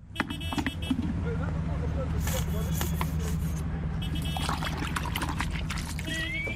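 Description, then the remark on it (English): Drain water mixed with dishwashing liquid pours and sloshes in a bucket while a man uses it to wash a taxi, with a steady traffic rumble underneath, occasional splashing bursts, and muffled voices in the background. “squeezes dishwashing liquid into a bucket of drain water and uses it to clean a taxi.”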